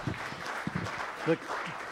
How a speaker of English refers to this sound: The clapping you're hearing, Caroline, if you are there, is people that love you